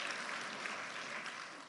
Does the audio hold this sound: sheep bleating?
no